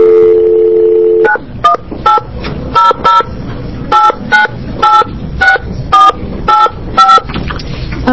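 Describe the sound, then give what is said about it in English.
A steady dial tone hums for about a second, then gives way to a quick run of roughly a dozen touch-tone keypad beeps as a phone number is dialed during a public hearing, pressed in short, slightly uneven bursts, loud with no talking. “Do you want to give me a phone number? Okay, yes, I know how to do this part.”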